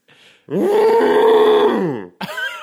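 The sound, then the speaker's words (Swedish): A person imitates an elephant's trumpet with a loud, sustained, strained vocal blare that wavers slightly in pitch, then a short rising squeal follows. A faint murmur comes just before. “Kan ni imitera en elefant?”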